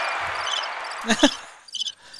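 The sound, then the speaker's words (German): Birdsong sound effect played from a soundboard: a short burst of chirping birdsong, high and twittering, over a steady hiss, with a couple of soft thumps midway and a brief flurry of chirps near the end. “Dann mache ich so ein bisschen Vogelgezwitscher hier.”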